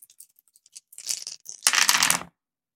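Dice clatter and rattle in a cup with scattered clicks, then a louder, dense burst of shaking as they're rolled again during a dice game, with no voices.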